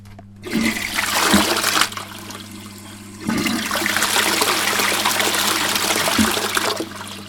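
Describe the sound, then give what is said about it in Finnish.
A toilet flushes with a loud rushing gush of water, briefly easing before surging again and draining steadily with hissing and gurgling until it tapers off near the end. “Vessan pönttö on yksi, joka kuluttaa ihan hurjasti”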